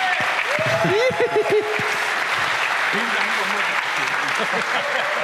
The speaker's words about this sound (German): Nochmal einen großen Applaus dafür.